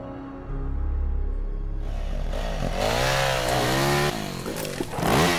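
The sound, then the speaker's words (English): A chainsaw roars to life and revs loudly, its pitch rising and dipping as it bites into a large tree, which starts to fall, steady for several seconds. “Logan's chainsaw bites into a large tree”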